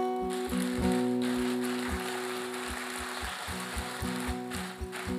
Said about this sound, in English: Right? We're applauding your step of faith. We're applauding God, what he's doing in you.